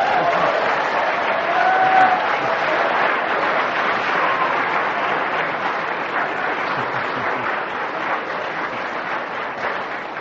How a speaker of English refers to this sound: Fancy applauding that diatribe. That disgusting, unbelievable nonsense.